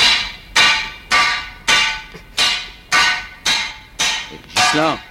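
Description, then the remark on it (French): A court president's gavel bangs about nine times in a steady, fairly quick rhythm, each strike loud with a short ringing tail, and nothing else heard between the blows; a sound effect taken from Valérie D'Amido's programme. “Popopop, après mon coup de marteau de président de tribunal, ça va partir.”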